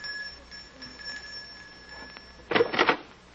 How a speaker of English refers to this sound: It's this door here. Just ring the bell.